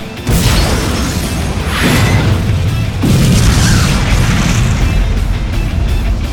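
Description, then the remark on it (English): A loud explosion booms out as the front of a car blows out after an exploding crossbow bolt hits it, followed by further heavy blasts about every second and a half, all over a continuous deep rumble and crackling debris that barely fades. “The entire front of the car blew out, making it easy for both Detroit's grenade and Chen's star knife to find targets.”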